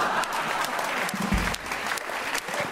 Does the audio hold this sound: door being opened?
no